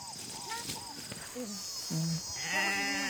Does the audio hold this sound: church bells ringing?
no